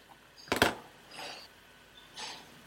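A key is handled up close: a sharp metallic rattle, then two softer, ringing jingles spaced about a second apart, with nothing else around them.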